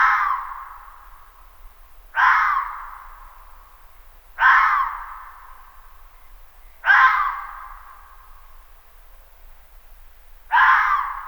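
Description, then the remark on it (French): A male red fox gives a series of five sharp, high-pitched barks at nightfall during the mating season in early winter, each a harsh rasping yelp that trails off, spaced about two seconds apart, loud against quiet background rumble. “Il lance ses aboiements aigus dès la tombée du soir.”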